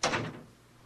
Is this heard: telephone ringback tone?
no